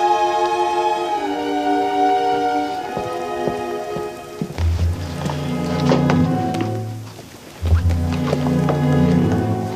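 Steady rain hisses and patters beneath sustained orchestral strings, with deep low swells rising partway through; no one speaks.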